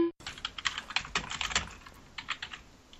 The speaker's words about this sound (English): What'd I say about the clicky keyboard?